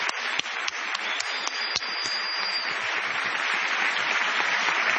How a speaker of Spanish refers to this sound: Está nuestro querido Tom Lupo. Vamos a aplaudir a Tom Lupo.